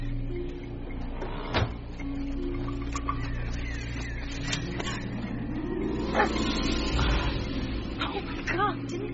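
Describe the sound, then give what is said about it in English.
A dog barks a few scattered times over a steady low background rumble, the barks sharp. “Hey, dog.”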